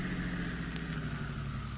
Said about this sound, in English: Now stop your car.